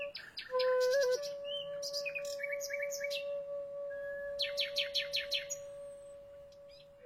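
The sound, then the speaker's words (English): A nightingale sings clear, with varied whistled phrases and a burst of rapid repeated notes, over a low steady sustained tone that hums beneath it throughout; part of a nocturnal performance between musicians and songbirds, BBC Radio 3's Nightingales. “A wild and remarkable performance between musicians and songbirds. Nightingales, presented by Verity Sharp.”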